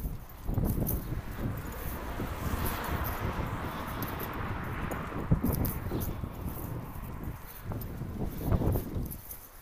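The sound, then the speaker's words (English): Strong wind buffets outdoors with a steady, loud low rumble and gusty surges, while footsteps tap along pavement; no one speaks. “very windy.”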